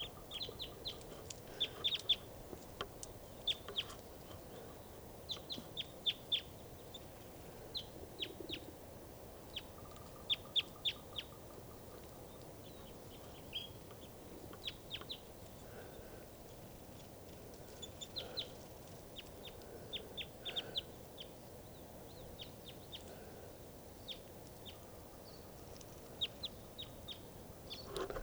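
Wild birds call throughout with short, high-pitched chirps in scattered bursts and quick runs, fairly quiet over a soft, steady background hiss, with no voices.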